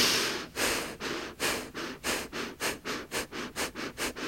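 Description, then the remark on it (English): Gentle breathing during a breathing exercise: a steady series of soft, sniff-like breaths that gradually quicken into a faster rhythm, about a dozen in all, with no talking. “Starting your breathing gently.”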